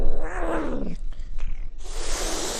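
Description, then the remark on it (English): A domestic cat in an apartment in Atlanta lets out a loud, drawn-out growling meow, its pitch sliding downward, followed by a pause and then a burst of breathy, hiss-like noise. “I'm at my apartment in Atlanta with my two cats.”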